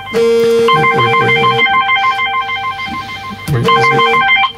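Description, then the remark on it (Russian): A mobile phone ringtone plays loudly, a repeating electronic melody of bright tones that pauses briefly midway and then resumes. “Она еще и звонит.”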